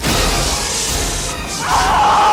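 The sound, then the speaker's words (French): A harsh, roaring wash of noise gives way to a loud, wavering shriek that rises out of it and holds: the alien creature in a film screaming and howling. “Vous entendez ça? Il crie, il hurle à la mort!”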